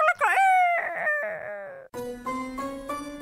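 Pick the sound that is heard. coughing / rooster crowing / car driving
rooster crowing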